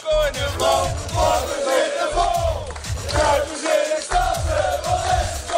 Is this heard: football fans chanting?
yes